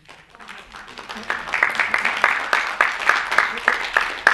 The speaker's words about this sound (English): I hope they keep the claps in there.